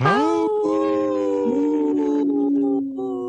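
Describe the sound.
A person imitates a wolf howl on the radio show Native Roots Radio Presents I'm Awake, a single loud, sustained wavering cry that swoops upward at the start, holds a steady pitch for a few seconds, then fades, alone.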